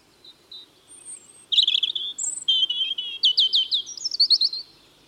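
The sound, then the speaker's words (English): A European robin sings a varied, high-pitched phrase of thin whistles, warbled trills and quick rising chirps, the bursts coming in short rapid clusters with a soft low hum underneath. “The robin really is unmistakable.”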